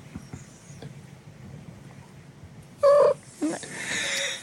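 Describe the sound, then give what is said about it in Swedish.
A sphynx cat being woken up gives a short, loud vocal cry followed by a brief second chirp, then breathy noisy rustling, after a few seconds of low, quiet background rumble. “Det är alltså naken katter. Ja, men de gör så himla mysigt ljud när man väcker dem.”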